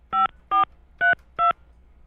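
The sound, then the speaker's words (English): Four evenly spaced touch-tone beeps as an old home phone number is dialed on a radio show. Each is a short, bright two-tone chirp at steady volume, with brief silent gaps between them. “Earlier in the show, you called your old home phone number.”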